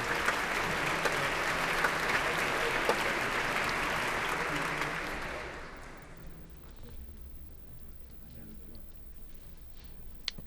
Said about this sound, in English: BBC Symphony Orchestra's on the stage, And that applause is for the leader of the orchestra this evening, Michael Davis.